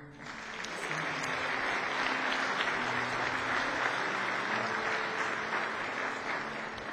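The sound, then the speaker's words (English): An audience at a United Methodist church Music Guild hymnal presentation applauds a recipient steadily, a dense, even wash of many hands clapping that swells in the first second and holds at a fairly loud level throughout. “You can clap.”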